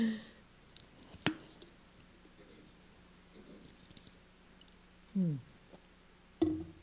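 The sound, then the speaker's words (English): Someone takes a few quiet sips of water, with soft swallowing clicks and gulps spaced apart over a hushed background. “Could you hand me my water? I got so darn excited, I'm like parched.”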